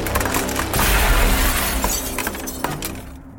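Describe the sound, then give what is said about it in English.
Glass from a mirror cracks and shatters with a loud burst as a hand is slammed into it, then bright, brittle fragments tinkle and scatter for a couple of seconds before fading out. No one speaks. “It cracked and splintered around her palm.”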